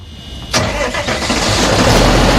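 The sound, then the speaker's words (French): A Chinese-made tractor engine cranks and catches about half a second in, then settles into a loud, steady rumbling run outdoors in the industrial area of Blagoveshchensk, with no voices. “Dans la partie industrielle de Blagoveshchensk, des tracteurs et des moissonneuses-batteuses, tous venus de Chine, à l'entrée d'un bâtiment clair.”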